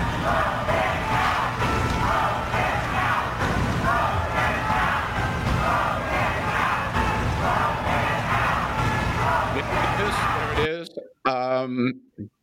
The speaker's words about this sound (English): The crowd shouting, vote him out, vote him out